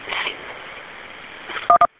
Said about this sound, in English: Hello? I was hearing a couple of button tones there. I didn't quite get the end of that.